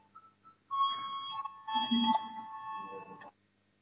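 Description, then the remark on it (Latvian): A steady electric voting bell rings continuously in a parliament session for about two and a half seconds, calling a vote on deputy Sprūde's proposal, loud, with faint room murmur underneath before it cuts off abruptly. “Lūdzu, zvanu balsosim par 21. Deputātas Sprūdes priekšlikumu.”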